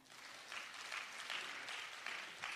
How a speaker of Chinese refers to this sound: 我们给三个掌声好吗？